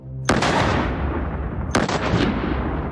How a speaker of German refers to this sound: Der Feldwebel wankt ein paar Schritte nach hinten, zielt auf das Schloss und drückt zweimal ab.